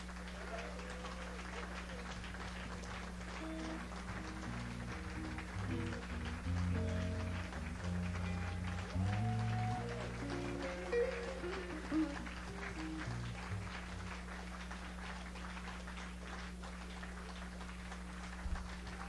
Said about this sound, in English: Now, ladies and gentlemen, give Mr. Shines a nice round of applause, because Mr. Shines, sometimes I think he's my father.